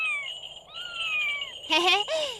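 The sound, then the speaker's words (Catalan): A cat meows several times: two long, thin, drawn-out cries that slowly fall in pitch, then two shorter, louder, brighter meows in quick succession. “Et taparàs els ulls i intentaràs agafar aquest gat.”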